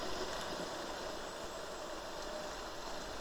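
The engine of a black Mondeo car idles steadily, a continuous low rumble with a faint mechanical knock running through it, no voices present.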